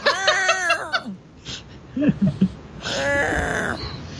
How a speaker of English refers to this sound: My cat is desperate to get into the kitchen.